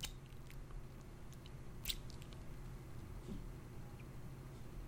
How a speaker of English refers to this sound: Yeah, you can hear my cat. I'm sorry.